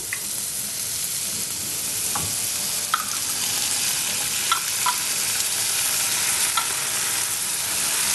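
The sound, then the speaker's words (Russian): Chopped cucumbers and tomato sizzle steadily in a hot skillet, a constant crackling hiss with a few brief scraping clicks of a utensil stirring them now and then, with no talking. “Теперь сюда же, в эту сковородку, мы добавляем нарезанные наши огурчики. Еще немножко обжариваем. И добавляем немножко томата.”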